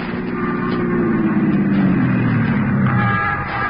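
A police squad car's engine rumbles steadily as it pulls away, its low droning hum holding loud and even for a few seconds before easing off slightly at the end. No voices are heard.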